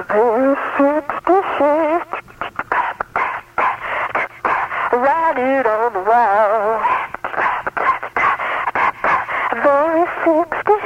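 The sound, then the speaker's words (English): A voice run through an echo chamber effect, sounding hollow and narrow like a radio, with reverberant, smeared tones carrying on steadily at fairly loud volume for about eleven seconds. “Echo chamber coming up.”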